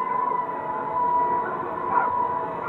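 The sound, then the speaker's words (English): A dense crowd recording pitched down an octave into a low, muffled wash, with a steady whining tone running through it that gives it a siren-like quality, continuous and fairly loud. “It also still sounds a little bit like a crowd, but there's a little bit of maybe the siren or something like that.”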